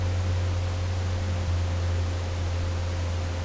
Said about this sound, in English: This is interference.